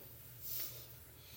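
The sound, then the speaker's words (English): A man takes one heavy, airy breath, a short hissing whoosh that rises and fades within about a second over a quiet, low background hum. “I hear a man breathing.”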